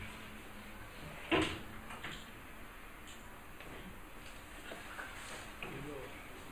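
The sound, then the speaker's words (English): A door shuts with a single short thud early on, followed by a few faint knocks and rustles over a quiet, steady background. “Thank you for the door.”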